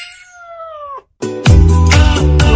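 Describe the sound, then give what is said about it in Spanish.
A cat at Cat Café Bilbao, a cat café in Bilbao, meows twice: a thin, drawn-out high mew that trails off, a brief pause, then a louder, strained and wailing meow that holds for over a second. “Ven a relajarte, a jugar con nuestros mininos”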